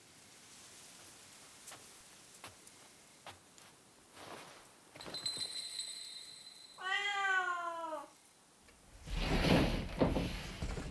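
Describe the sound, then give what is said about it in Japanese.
The white cat of a ryokan (Japanese inn) in a game gives one drawn-out, wavering meow midway through, after a few scattered soft taps, and a burst of hissing, rain-like noise follows at the end. “この旅館の猫です。”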